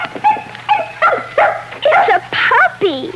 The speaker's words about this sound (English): A little white puppy.